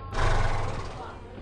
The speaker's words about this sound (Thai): แต่เมื่อมันได้เดินทางมาถึงมันต้องตกใจเพราะตั้งแต่เกิดมามันยังไม่เคยเห็นอะไรที่มันโกลาหลขวักไขว่แบบนี้มาก่อนเลยแล้วทันใดนั้นก็มีเสียงของรถม้าดังขึ้น